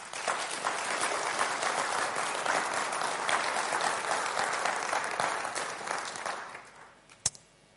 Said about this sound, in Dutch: Als je ziet met hoeveel zorg dit is gemaakt. En ik wil de mensen die dat hebben gedaan echt een hartelijk applaus geven.